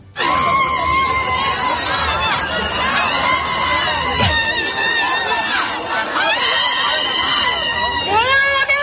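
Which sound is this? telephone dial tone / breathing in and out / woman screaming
woman screaming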